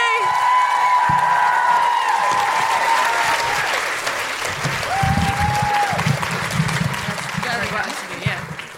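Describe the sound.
A large crowd applauds steadily for the whole stretch, with shouts and whoops rising over the dense clapping and a few voices calling out, the noise easing slightly toward the end.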